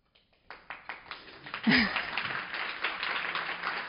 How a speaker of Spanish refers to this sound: Seguir aplaudiendo, porque me gustaría que recordáramos que hace un año de la Dana y que recordáramos a todos los compañeros, médicos, enfermeras, de otras profesiones, a todos los voluntarios que estuvieron ayudando durante la Dana